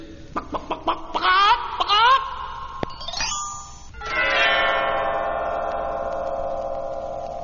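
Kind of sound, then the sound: animal, hen clucking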